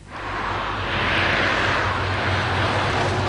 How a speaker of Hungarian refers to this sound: Teherautó halad át a Nagykörösi úton. Hanghatása mondhatni nem igazán kellemes.